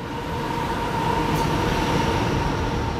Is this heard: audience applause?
no